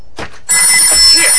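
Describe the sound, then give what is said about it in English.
After a brief rustle, a telephone upstairs in a home starts ringing abruptly, a loud, sustained, shrill metallic trill that continues to the end. “Right, the phone. Where did I leave the phone?”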